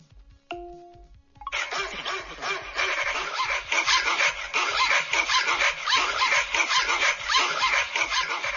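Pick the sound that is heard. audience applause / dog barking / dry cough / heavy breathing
dog barking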